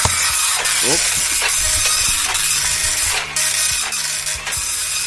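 A slow printer runs steadily, printing out a score, its mechanism ratcheting and whirring with repeated clicks and brief bursts of hiss as the page feeds through, a constant mechanical hum underneath.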